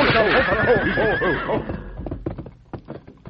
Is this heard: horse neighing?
yes